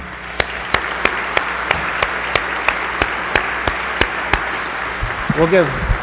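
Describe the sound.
Audience applause at a scholarship awards presentation for a scholarship recipient's father, sounding like slow, evenly spaced hand claps, about fifteen sharp claps in a steady rhythm, with a voice briefly heard near the end.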